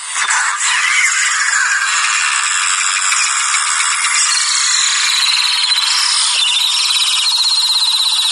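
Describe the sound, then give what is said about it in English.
Steady, dense fizzing and crackling from a piece of chalk soaking in water as water goes into the chalk and air escapes through its very tiny holes, a continuous high-pitched hiss of countless tiny bubbles, loud and unbroken for several seconds with no voices. “It's essentially air leaving the piece of chalk in very, very tiny holes.”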